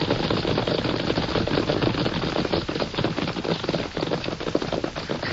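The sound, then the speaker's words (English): A dense, continuous drumming of many hooves pounds steadily as a large herd of about 100 horses, a stallion with his mares, gallops toward a canyon trail, the rapid overlapping beats forming a loud, rumbling clatter with no voices. “Horses. Sounds like 100 of them coming right this way.”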